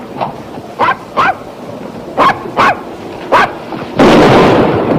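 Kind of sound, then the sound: animal, dog barking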